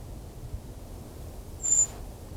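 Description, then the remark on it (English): A single thin, very high-pitched brown creeper call, a brief wispy seee note rising out of quiet outdoor background hiss, with no voices, recorded at 1 o'clock on 2 November from an unseen bird isolated from a dispersed flock. “It's the creeper again.”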